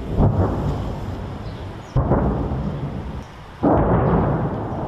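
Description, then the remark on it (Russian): Echo of battle carrying from the surrounding area, heard from a town's empty streets: three heavy, loud booms roughly every one and a half to two seconds, each rolling into a long low reverberating tail, with no voices. “С окрестностей доносится эхо боя. Очень громко.”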